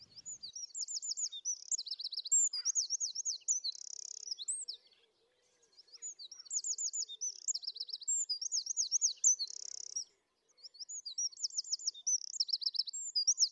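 A wren, a bird only a couple of inches long, sings loud, rapid bursts of high, ultra-fast trills and chattering notes packing in over 100 notes, delivered in three long phrases separated by brief pauses, clear with no talking.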